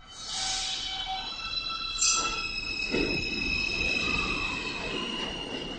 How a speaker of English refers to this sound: That, of course, the familiar high-pitched sound of some of the most modern subway cars pulling into the station.